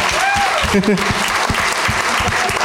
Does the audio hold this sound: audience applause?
yes